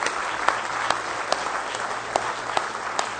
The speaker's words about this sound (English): Now let's give the Lord Jesus Christ a real good hand clap of praise in the house of the Lord tonight.